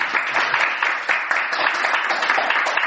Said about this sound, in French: Nous sommes depuis 28 jours, il y a 65 200 personnes qui sont venues écouter les prédications. On les applaudit!